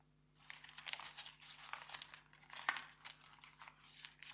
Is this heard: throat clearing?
no